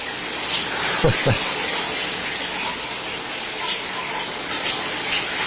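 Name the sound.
shower running water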